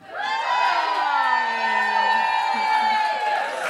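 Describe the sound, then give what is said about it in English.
A live stage-show audience cheers and whoops loudly for several seconds after a performer announces she is pregnant: a dense wash of many voices with high excited shouts rising above a steady roar of applause-like noise. “Oh, love people cheering the fact I've had unprotected sex.”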